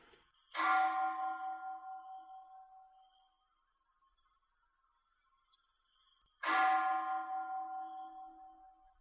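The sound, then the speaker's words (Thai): A bell is struck twice, about six seconds apart, each clear metallic tone ringing out and slowly fading with a gentle wavering hum. Nothing else is heard between the strikes. “เราฟังเสียงระฆังดูซิจิตไหวไหม”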